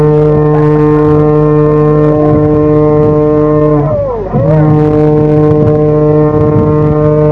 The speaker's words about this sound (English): Oh! Do you hear that? For the first time in history, we've got our hooter going. Oh, it's absolutely fantastic.